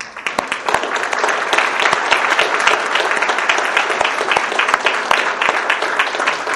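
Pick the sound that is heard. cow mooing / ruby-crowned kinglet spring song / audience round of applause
audience round of applause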